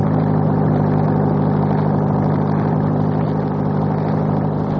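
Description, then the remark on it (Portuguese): A car engine drones steadily while driving along the Estrada da Gávea, a loud continuous hum with low tonal bands and a broad rushing noise over it, holding an even level throughout with no voices. “Enquanto o senhor dirige, eu vou observando um lado e o outro do caminho.”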